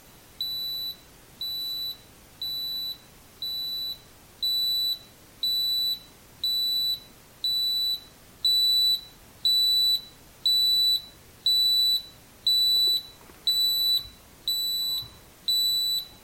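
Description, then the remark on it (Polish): An electronic receiver device, triggered by a radio signal from a transmitter after its button is pressed, beeps in a steady series of about fourteen high-pitched tones, each lasting roughly half a second, growing noticeably louder partway through, with no talking. “To urządzenie było słychać, piszczy coraz głośniej.”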